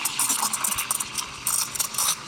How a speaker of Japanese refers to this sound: 今のチリチリの音が泡を入れてる状態で、今これがミルクを温めてます。